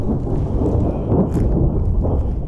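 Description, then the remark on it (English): A deep, sustained rumble of thunder rolls on steadily and loudly, with a soft wash of rain and storm noise mixed beneath it and no voices, a storm bringing rain and lightning during wildfire season in Rio Blanco County. “But with rain comes lightning and the potential for new fires crop up.”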